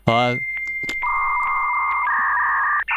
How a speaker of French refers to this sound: j'ai oublié le son du modem que je devais mettre dès le début, donc je vous propose maintenant à l'écoute.